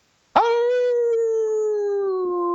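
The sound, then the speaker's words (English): A person with a cold imitates a dog's howl as a sign-off on the Old Dogs REI Network show, one long sustained wavering tone that starts abruptly and slowly sinks in pitch, loud with no other sounds. “Your old dog howl before you go?”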